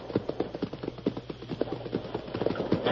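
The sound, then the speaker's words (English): A heavy hidden door, disguised with scrub and vines, is raised by renegades on pulleys out of a cliff wall: a steady train of rapid clacks and creaks over a low rumble, continuous for the whole stretch, with no voices. “Them renegades are raising a door right out of the cliff wall.”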